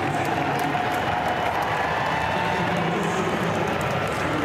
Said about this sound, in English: There was almost no one there. There was a very, very low attendance for this game. And even the cheering for Pelosi as she walked up to throw the pitch was pretty funny.